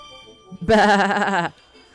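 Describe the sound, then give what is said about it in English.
A single loud sheep bleat with a wavering, quavering tone lasting just under a second, preceded by a soft short sound and followed by quiet. “Once there was a boy who became bored when he watched over the village sheep.”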